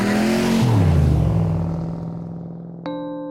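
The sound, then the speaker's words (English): A loud muscle car engine roars, revving hard and then dropping in pitch as it settles into a lower rumble. A steady tone joins near the end. “So in the 50s, it was all about muscle cars. It was all about the loudest car you could have, Mustangs, Corvettes that were really, really loud.”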